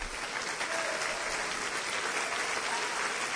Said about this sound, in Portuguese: quando você aplaudir a Deus, por favor, aplauda o Senhor e celebre o seu nome.